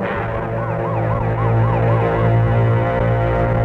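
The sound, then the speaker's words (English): Fire engine sirens wail, rising and falling in rapid, steady cycles over a loud, low engine rumble as the fire engines pass and turn a corner down the block, with no voices. “We better get over to the curb fire engines.”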